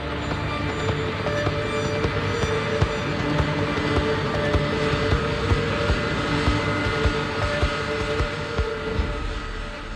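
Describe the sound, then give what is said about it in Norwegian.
A KLM jet airliner roars at full power down a runway on its takeoff roll in dense fog, a loud, steady engine rumble with whining tones that holds constant for the whole stretch, with no voices. “Nå ser han avkjøringen litt lenger fremme til venstre, og begynner å svinge skarpt, mens de ser KLM-flyet dundre mot dem.”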